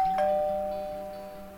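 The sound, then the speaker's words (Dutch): A doorbell at a house rings once: a bright electronic chime with a sharp start, a sustained tone and a steady low hum, fading slowly over about a second and a half with no voices. “Nou, dan moeten we maar eens aanbellen bij de vrouw die foto maakte”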